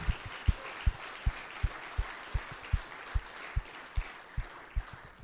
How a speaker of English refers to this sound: I think he'd really appreciate it if you guys wouldn't mind giving him a round of applause to help him get better. Thank you.